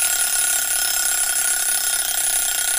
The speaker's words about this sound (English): When the red pointer reaches 0 again, the bell in the round white centre rings.